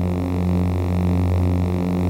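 A steady, dense electric hum drones low and unbroken, with a faint buzzing edge and a slight shimmer: a lightsaber humming loop made by Marshall, with no voices.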